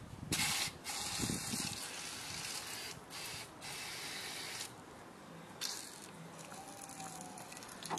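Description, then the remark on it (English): A pressure sprayer hisses out liquid, a steady broad spray broken by several short, sharper bursts as the flow is pumped and released, with no one speaking. “Or you can put the pepper spray inside one of these pressure sprayers.”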